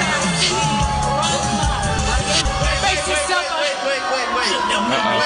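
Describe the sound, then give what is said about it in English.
A large crowd boos loudly and continuously, a dense, sustained roar of many voices with scattered higher shouts and whoops rising above it for about five seconds, reacting to a woman saying the N-word while singing along to a song. “That's why people are booing.”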